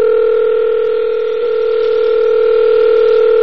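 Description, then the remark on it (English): A steady, unbroken telephone dial tone of an outgoing call hums loudly and evenly for the whole stretch, a flat electronic drone with no breaks and no voices. “if you want us to call, you gotta awesome, pick babe, up the phone”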